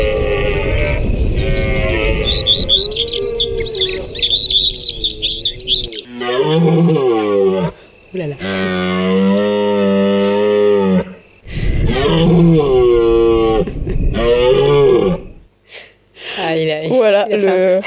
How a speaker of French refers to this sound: Le cerf adulte, donc celui qui a ses bois, le mâle viril, il a un son assez particulier, que vous connaissez peut-être, et qu'on appelle le brame du cerf.